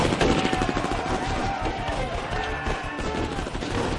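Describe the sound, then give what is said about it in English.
A sustained volley of gunfire from men firing blind through blinding dust in a canyon, rapid overlapping shots blurring into a dense, loud, continuous crackle that barely lets up over four seconds. “Even firing blind, they couldn't fail to find targets.”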